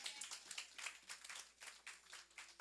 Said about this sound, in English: Let's clap for my husband.